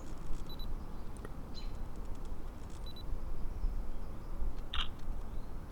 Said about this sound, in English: I'm gonna stop taking pictures because I've either gotten a good one or I haven't.